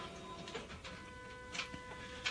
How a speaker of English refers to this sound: I had to shut my printer down. That thing gets noisy.